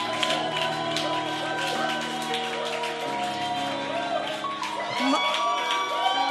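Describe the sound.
An audience applauds steadily over sustained keyboard music, with voices and cheers mixed into the dense, even wash of sound for several seconds.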